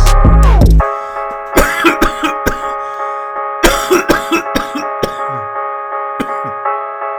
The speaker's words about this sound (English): Coughing my lungs out, making these fuck sounds, but spitting these bars loud.